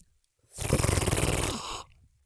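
A loud, rattling sip of Glenkinchie, a lowland scotch: a single noisy, fluttering slurp drawn in for over a second, harsh and breathy, with no talking around it.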